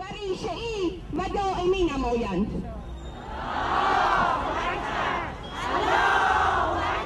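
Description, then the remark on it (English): A large crowd of women in long black chadors chants loudly at a rally in Iran, demanding parliament act against what they consider improper clothing, starting with rising, sing-song shouted phrases in unison, then swelling into two long waves of roaring massed voices. “They found support from women like these at this rally last year.”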